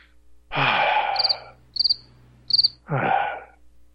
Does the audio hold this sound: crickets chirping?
yes